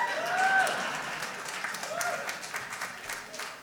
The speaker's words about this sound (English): Yeah, you're clapping because you didn't get to have to sing it for 40 years.